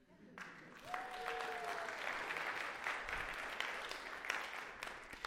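An audience breaks into sustained applause welcoming someone home, a dense wash of many hands clapping at a steady loudness for several seconds, with a faint whistle-like tone rising briefly early on.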